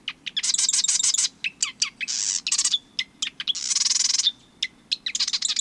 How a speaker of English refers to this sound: When you're near a marsh this time of year, listen for the marsh wren's sewing machine song.